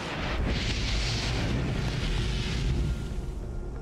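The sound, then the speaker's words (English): A huge explosion rips through an oil rig at 9:55 p.m. as a spark ignites escaping gas, a deep, loud roar with heavy low rumble that sustains for about three seconds before starting to ease off. No voices. “A spark suddenly ignites the escaping gas, and an explosion rips through the rig.”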